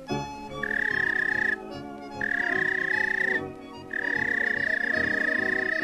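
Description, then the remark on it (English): A whistle calls a police dog with three long, steady high-pitched notes, the last held longest, sounding over a continuous low, busy background hum. “Here's the way it whistled to him.”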